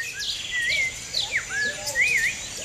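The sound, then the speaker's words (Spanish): A quetzal, the bird of Guatemala in Central America, calls with a series of bright, swooping whistled notes, rising and falling in short phrases, over a steady hiss of insects and forest background. “El pájaro de la América Central es el pájaro de Guatemala, que es uno de los países de la América Central, y se llama Quetzal.”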